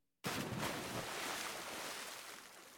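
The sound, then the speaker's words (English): A sound effect: after a brief silence, a person jumps into a river with a sudden, loud splash, followed by a sustained wash of churning water that slowly fades. “This is a short excerpt of Sound Effects Cue number 19, Clarence jumping into the river.”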